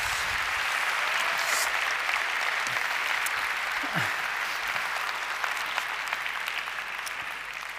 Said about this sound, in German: Mit einer Band aus 7 unterschiedlichen Gemeinden. Vielleicht können wir euch mal einen Applaus geben. Großartig.